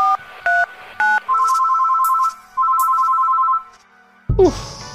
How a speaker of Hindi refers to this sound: Phone तो उठा लो तपन।